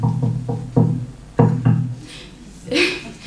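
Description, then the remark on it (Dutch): A grandfather's typical knock on a door when he comes to visit: four quick, hollow raps, a short pause, then two firmer ones, followed by a brief faint voice-like sound. “Dan hoorden we altijd het typische opa klopje.”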